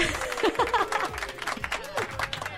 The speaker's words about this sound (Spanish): ¡Un aplauso! ¡Un aplauso! ¡Un aplauso ya! ¡Ya, así ya, directo!